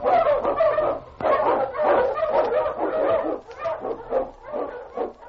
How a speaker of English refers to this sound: On King, on you, Husky! The Wonder Dog King, swiftest and strongest of Eskimo lead dogs, blazes the trail through storm and snow for Sergeant Preston as he meets the Challenge of the Yukon.